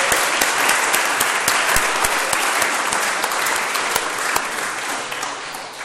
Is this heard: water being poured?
no